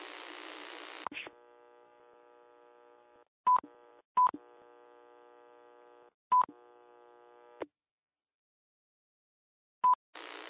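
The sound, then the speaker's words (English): Short electronic beeps and tone bursts from an EchoLink station punctuate a steady harmonic hum that switches on and off repeatedly, the link keying up with tones but no audio coming through. “Here's an echo link station with no audio on there again, or something of that nature.”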